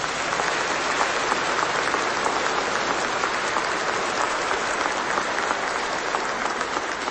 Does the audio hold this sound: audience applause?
yes